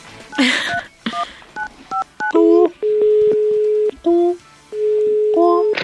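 A telephone number is dialed on the Vibra Bogotá morning radio show, calling Max Milflor: a quick series of short two-tone beeps, followed by longer steady ringback tones with gaps between them, all fairly loud with no one talking.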